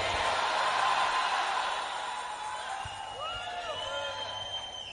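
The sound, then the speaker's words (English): An audience shouts and cheers together in a dense, steady roar of many voices, with a few higher, wavering individual cries rising out of the crowd toward the end. “Somebody shout Jesus.”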